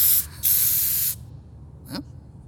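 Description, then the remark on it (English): Two loud bursts of metallic silver spray paint hissing from a can as a giant circle is sprayed on a wall, a short one then a longer one, followed by a faint clatter as the can rattles. “She hobbled over to the wall and sprayed a giant circle, then turned it into a happy face.”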